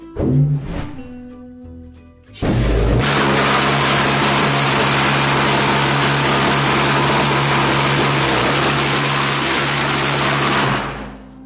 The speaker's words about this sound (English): And at least if it doesn't work, the pulse jet now has a bigger hat than every other pulse jet out there.